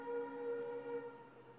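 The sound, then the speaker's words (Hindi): A passing train's horn sounds as one long, steady, harmonic blare at moderate volume, fading a little toward the end, with no talking over it. “उस चिन्मय धाम में ऐसे रेलगाड़ियों की आवाज नहीं आती है, और जब वहां लीला हो रही होती है, कथा हो रही होती है, बीच बीच में ऐसे रुकावट नहीं होती है,”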